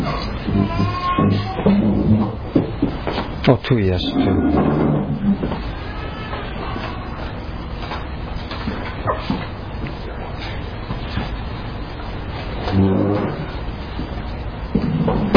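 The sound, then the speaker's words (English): A few chairs are moved and set down with scattered wooden knocks and scrapes, clustered early and again near the end, with a few brief spoken words. “Perhaps we could put a few chairs there with, if you could”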